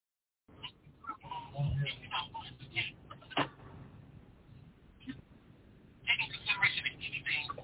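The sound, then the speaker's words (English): A telephone call, placed from another person's phone, being dialed and connecting over a thin, band-limited phone line, with scattered clicks and tones and muffled voice-like murmurs underneath, growing brighter and busier toward the end. “Let me call from your phone, y'all.”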